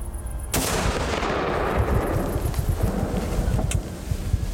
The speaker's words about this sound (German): Ein Schuss, der Taubenschuss. Hat er? Ja. Hat er? Ja, liegt. Ich seh's. Er liegt. Das ist das erste Mal, dass ich filme, wie ein reifer Brumpftisch erlegt wird.